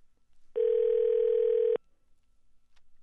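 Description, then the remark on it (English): A single ringback tone on an outgoing phone call placed live on air, one steady electronic buzz lasting just over a second, loud and clear against quiet background, with no voices. “Let's see if he answers his phone or if his assistant radio will answer.”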